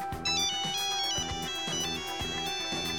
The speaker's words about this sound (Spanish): Que todos reconoceremos que es. ¡Nokia! Es un sonido de teléfono móvil antiguo, ¿no? Es un sonido del Nokia Tune.